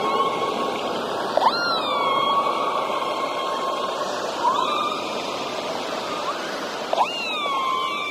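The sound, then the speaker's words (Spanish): Three rising, moaning calls of a southern right whale, a few seconds apart, with harmonic overtones, over a steady hum and a wash of underwater hiss. “Les queremos hacer acuerdo que estamos en la época del avistamiento de las ballenas.”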